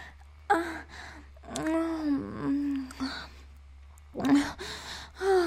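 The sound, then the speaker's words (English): A woman pants heavily in a series of breathy gasps with voiced, moaning tones, coming in uneven bursts with short pauses between them. Nobody speaks. “She's panting, feeling dizzy.”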